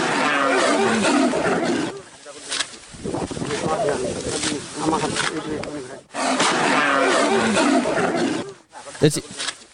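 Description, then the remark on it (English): A tiger roars in long, rough, rumbling bursts: one heavy stretch at the start, growls in the middle, and another loud roar near the end. “Dude, a tiger's gonna pop out of that tall grass.”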